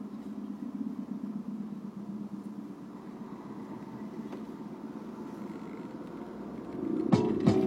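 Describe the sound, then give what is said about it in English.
A steady low engine rumble idles continuously behind a stopped bus on Broadway, with faint traffic noise around it; near the end a brief louder mechanical burst, like a horn or brake hiss, rises over the hum. “This bus has stopped and I'm behind it.”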